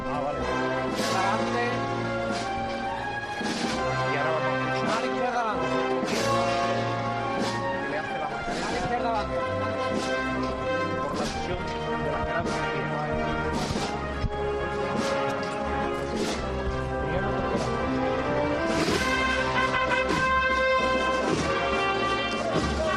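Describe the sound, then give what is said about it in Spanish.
The drum corps of a band plays at full volume at the Virgen de la Macarena procession in Seville, drums pounding steadily beneath sustained brass chords, while bright cymbal crashes ring out every few seconds, announcing the march. “Suena la batería del … y ese platillo que anuncia ya la marcha, con la que ya se empieza a divisar desde la Plaza de la Campana a la Macarena.”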